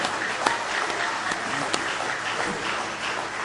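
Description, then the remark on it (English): A church audience claps their hands together in praise during a service, a steady, dense wash of applause with a few sharper claps standing out, sustained throughout at a moderate level. “Oh, go ahead and give him a hand clap of praise tonight.”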